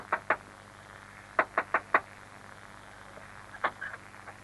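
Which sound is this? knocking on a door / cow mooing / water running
knocking on a door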